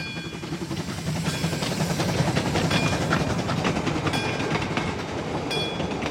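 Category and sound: vehicle, train running on rails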